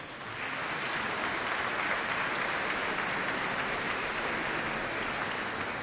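Sustained church audience applause for children who handed flowers to the pastors, a dense steady wash of clapping hands that holds at an even loudness for several seconds with no voices over it.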